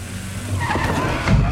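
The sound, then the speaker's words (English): A minibus brakes hard, its tires letting out a sustained skidding squeal over a low engine rumble, ending in a heavier thump-like surge near the close, as a police officer sprawls across the windscreen. “Jamie brakes hard as Officer Marler sprawls across the windscreen.”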